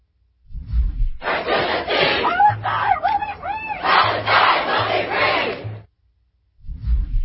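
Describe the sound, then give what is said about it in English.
A loud crowd of protesters at Columbia University chants the slogan "From the river to the sea, Palestine will be free" in unison, many voices shouting together in a steady rhythmic cadence for several seconds before cutting off abruptly. “And shouting, from the river to the sea, Palestine will be free.”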